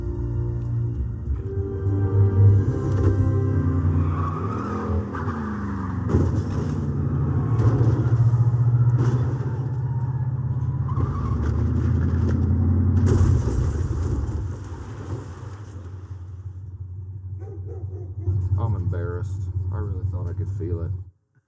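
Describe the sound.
A car engine is started and then rumbles loudly and steadily, with deep, throbbing low tones and occasional revving swells. Faint voices can be heard near the end.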